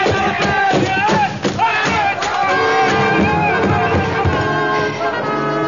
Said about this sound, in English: As the crowd before the reviewing stand milled in hopeless confusion, the elephant of the bearded stranger reared, trumpeted, and crashed into the wooden structure.